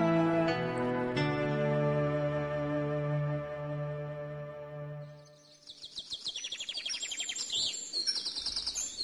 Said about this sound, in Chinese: 这位出家人遵照他师父的教导，卖了衣单，换来几十斤的米，上山喂食鸟雀。